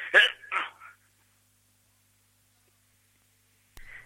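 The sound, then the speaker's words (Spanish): A sharp sneeze bursts out in two quick explosive parts at the start, followed by a long silence and a brief faint noise near the end. “Ah, ahí nos habíamos, con estornudo incluido.”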